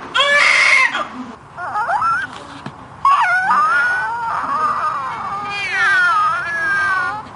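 A baby's long, high-pitched crying in pain, loud, with a sharp opening shriek followed by sustained, wavering wails that rise and fall over several seconds, no talking.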